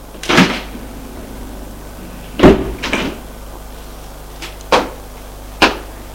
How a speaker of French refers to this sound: Et il ouvre la porte de sa chambre.